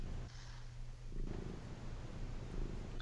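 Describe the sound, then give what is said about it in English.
A cat on a desk purrs steadily and close to the microphone, a low continuous rumbling throb that carries through the whole clip with no voices over it. “I'm really trying to get this cat off my desk.”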